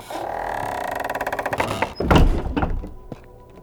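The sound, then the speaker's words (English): A heavy library door creaks on its hinges for a couple of seconds, then shuts with a loud, deep thunk, followed by a brief rattle as it settles. “This is the door to the library.”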